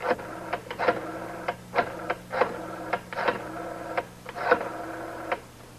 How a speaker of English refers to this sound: Make your phone call if you can get through on the party line. Well, I'm in luck.